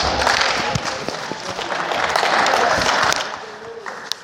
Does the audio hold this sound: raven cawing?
no